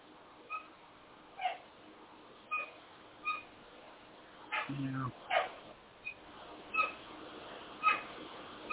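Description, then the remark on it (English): A four-month-old female Doberman puppy lets out a string of short, high-pitched yelps and whimpers, roughly one every second, fairly faint, with a lower, gruffer bark-like burst midway through. “Yeah, we have a new Doberman puppy. She's 4 months old.”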